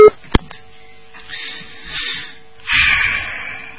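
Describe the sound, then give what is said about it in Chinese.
A sharp click, then a steady electronic phone tone hums over line hiss and muffled background noise, the flat signal heard after a caller's phone line hangs up during a radio call-in programme, with a louder burst of static near the end. “哎呀，电话挂掉了。”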